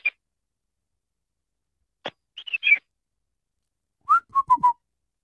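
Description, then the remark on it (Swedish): A person whistles short, clipped bursts in rhythm, imitating a parrot's chatter to say "goodbye" in parrot language: a quick trio of high chirpy notes, then four lower, steadier whistles in a row, with silence between phrases. “Man kan ju typ säga typ papegojspråk typ på i takt. Kan man göra så här.”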